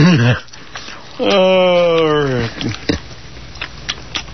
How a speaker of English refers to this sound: He's purring. The wiener dog? Mm-hmm.